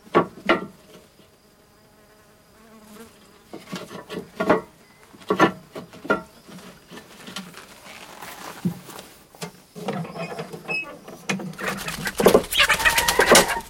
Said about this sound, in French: Des poules.